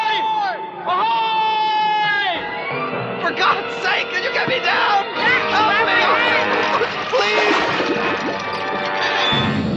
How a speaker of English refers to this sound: That's pretty much the trailer. Not a whole lot going on in the trailer, just different screams and everything.